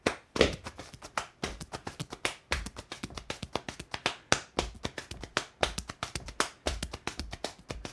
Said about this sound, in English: When I was coming through school, that was one of the things that you wanted to learn how to do was hound bone. And that's, you know, how you slap your hand on your leg and your chest. Like, I don't know if you can hear it or not, but I...